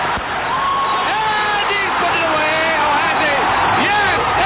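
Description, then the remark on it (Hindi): An audience claps and cheers in a steady, dense wash of sound, with many overlapping voices whooping and calling out over the applause throughout. “क्या बात है, आप लोग तो ऐसे ताली बजा रहे जैसे लाइव देख रहे.”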